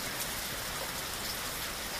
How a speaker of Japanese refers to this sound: 雨音はピタッピタッと落ちてくる音や、カタカタと音を立てる葉っぱの音、バシャバシャと音を立てる水たまりの音みたいに、いろんな音が混ざり合ってとても美しい音がするんだよ。